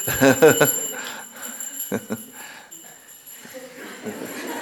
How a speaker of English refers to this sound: the bell is very loud.